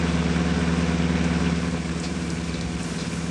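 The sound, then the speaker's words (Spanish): A car engine runs steadily at idle, a continuous low rumble with a faint rhythmic pulse and no voices over it. “Nos estamos acercando. Ya lo veo. Esa es la condenada verja electrizada. Dejaré el carro aquí.”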